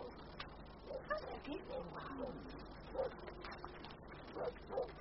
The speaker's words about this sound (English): Oh, that dog is howling again. Cousin Gregory, can we not have some peace? Surely the dog may be put in the kennel, not kept in a chain outside.